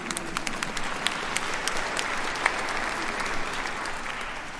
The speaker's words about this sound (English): Yes, you can clap if you want.